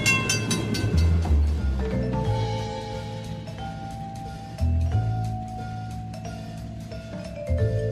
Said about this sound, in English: So hop aboard, buckle up, because the train is departing the station.